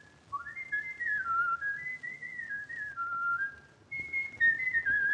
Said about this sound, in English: My gosh, I never heard him whistle like that before. Shh, listen.